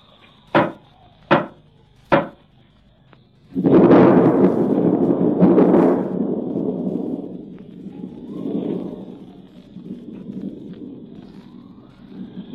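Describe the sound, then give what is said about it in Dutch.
Three loud, heavy knocks from a door knocker on a grand door that has no bell, evenly spaced about a second apart, followed by a sustained rumbling, rushing noise that gradually fades. “Nee, alleen een klopper.”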